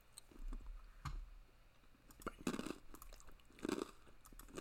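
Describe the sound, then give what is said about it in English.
Someone crunches on a pretzel, with a few crisp bites and softer chewing in between. The sounds come in irregular bursts with short pauses, and nobody speaks. “I'm sorry, that's the last pretzel I'll eat.”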